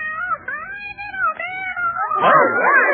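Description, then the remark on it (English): A cat meows loudly and continuously, its drawn-out, wavering cries sliding up and down in pitch, growing more intense and yowling toward the end, clear with no talking. “Here comes the cat in the kettle.”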